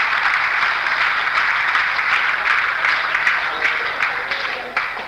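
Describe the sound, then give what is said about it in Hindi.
A crowd applauds for themselves, a dense wash of many hands clapping at an even loudness for about five seconds before it begins to thin slightly at the end. “Thank you, एक बार तालियां बजाएं आपके लिए, आपकी बहुत अच्छी चाहत है।”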